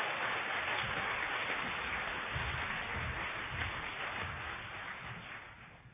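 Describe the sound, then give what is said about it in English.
A crowd applauds the newly introduced chairs and officers in a dense, steady wash of clapping with no distinct individual claps, holding an even level before tapering off in the last second or so. “And now you can give your round of applause to everybody.”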